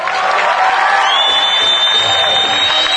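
A loud crowd at the Greek stage applauds and cheers steadily to kick off Jeans for Life, with dense clapping under shouts and whoops, and a high whistle-like tone rising and holding through the second half.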